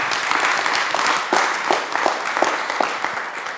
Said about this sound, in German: Das waren weniger als 5 Minuten. Insofern dürft ihr jetzt klatschen und ich höre auf zu reden.